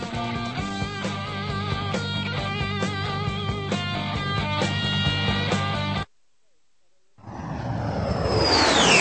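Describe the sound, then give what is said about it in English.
Steady instrumental music plays, cuts to a brief silence, then a loud jet airplane roars in, its whistling whine sliding downward as it sweeps overhead. “Have you seen those crisscross trails that hang in the atmosphere long after a plane has passed over?”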